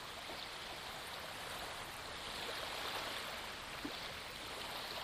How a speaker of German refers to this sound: Die Wellen, die vor und zurück gehen. Sanfte Meeresrauschen, vielleicht verbunden noch mit dem Atemgeräusch, deinem sanften Meeresrauschenatem, die Meeresatmung.